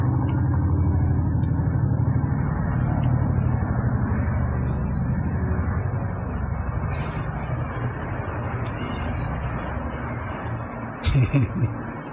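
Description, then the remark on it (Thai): A steady, loud, low roar of an airplane passing overhead fills the whole stretch, a continuous engine rumble that barely changes, with a brief clatter near the end. “เรือบินนี่มันดีนะมันเป็นบทเรียนภาคปฏิบัติอย่างเนี้ยเราได้ยินเสียงสังเกตไหมที่ใจเราวิ่งตามเสียงเสียงอยู่ทางนี้ใจเราก็ไหลไปทางนี้นะเรือบินมันเลื่อนมาจิตเราก็เลื่อนตามมันไป”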